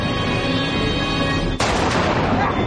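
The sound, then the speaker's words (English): A steady, tonal drone runs for a moment, then a sharp, loud rifle shot cracks out as the character Quint fires his rifle into the water in a Spielberg film, followed by a dense, noisy wash that continues to the end. “He goes out and starts firing his rifle into the water.”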